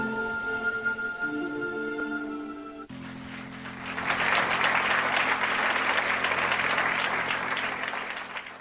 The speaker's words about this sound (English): Listen to all those people clapping for Robert Redford. He was not there at the Chicago Live.